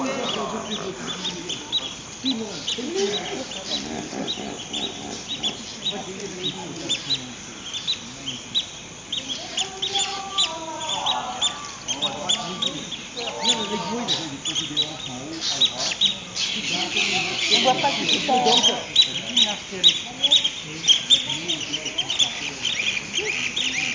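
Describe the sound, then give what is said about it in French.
A crowd of birds heading toward the river, squawking and quacking at once, a dense, continuous chorus of overlapping calls that grows busier and louder toward the end, with a steady hiss in the background. “Les oiseaux vont vers le fleuve.”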